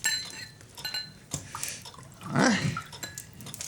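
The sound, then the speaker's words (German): A drink is poured into a glass, half a glass, a short gurgling stream whose pitch rises as the glass fills, preceded by faint clinks and shuffling. “Komm, trinken wir eins.”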